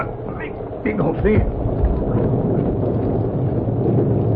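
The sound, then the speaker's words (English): A few short, high, wavering whimpers from an injured collie puppy with a broken leg rise and fall over a steady, rushing wind-like noise, then fade into the continuous hiss. “Sound like a little dog.”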